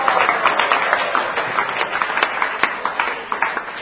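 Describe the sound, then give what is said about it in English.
A crowd claps and cheers for a speaker in a steady, dense wash of applause, with many overlapping hand claps and raised voices blending into one continuous roar. “So now you're cheering me, I should be happy.”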